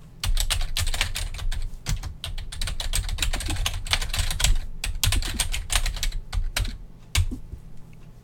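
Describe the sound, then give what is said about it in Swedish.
Rapid, steady typing on a computer keyboard, a dense stream of crisp key clicks with brief pauses and a few heavier keystrokes, no voices. “Det var när man skriver på tangentbordet och datorn.”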